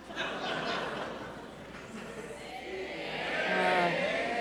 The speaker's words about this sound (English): The audience is all yelling A, marijuana A. smuggler. They're saying, I hear them. Yeah. I hear Chicago loud and clear.